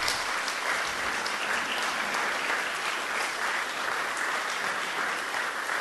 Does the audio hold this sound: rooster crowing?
no